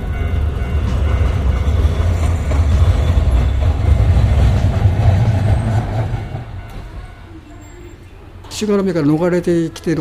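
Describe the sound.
A train rumbles loudly over railway tracks in Japan with a steady, heavy roar for about six seconds, then fades away. A voice briefly rises near the end.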